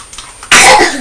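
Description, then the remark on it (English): A child sneezes once, a sudden loud burst that follows a brief quiet pause and trails off quickly. No one speaks. “Now that was a sneeze”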